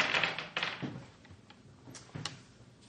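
Dice clatter onto a hard tabletop in a quick burst of sharp taps, several louder clicks at first, then a few scattered lighter knocks as they settle, with no talking.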